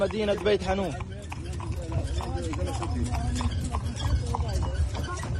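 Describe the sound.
Horse hooves clip-clop in a steady, brisk rhythm as a horse-drawn cart rolls past in Gaza, carrying displaced Palestinians returning to their homes. The sharp strikes stand out over a busy background of voices and street noise.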